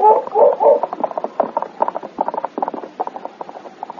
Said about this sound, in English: For some time, Sergeant Preston followed King as the great dog ran before him, sniffing the ground and barking intermittently.